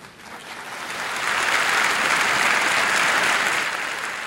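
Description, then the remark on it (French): A large crowd at the UN General Assembly applauds Palestinian Authority president Mahmoud Abbas at the UN podium, the dense clapping swelling after the first second into a loud, sustained roar that holds without a break before easing slightly at the end. “Quand Mahmoud Abbas a brandi la tribune de l'ONU sous les applaudissements, il a écrit un nouvel épisode de l'épopée palestinienne.”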